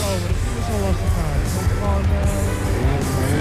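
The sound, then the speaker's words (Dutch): A car engine drones steadily as a car comes from the infield and crosses a stretch of the race track, its low rumble and shifting pitch blending into dense, constant background noise with indistinct voices underneath. “Ja, er komt dus een auto, die komt van het middenterrein. Die moet dus een stukje van de baan overbruggen.”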